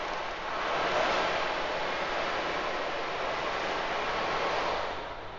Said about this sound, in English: ocean drum. People love that as well. I had to search a long time to get the perfect sound of actual rain in the ocean. This thing is gigantic and I love it. People have, when I play that, actually think sometimes there's a rainstorm outside.